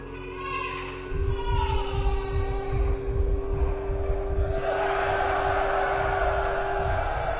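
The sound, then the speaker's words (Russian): A crowd roars with loud, sustained joyful cheering and applause that swells after a quiet start and grows brighter and more intense partway through, a dense wash of voices continuing to the end. “радостный крик толпы и аплодисменты.”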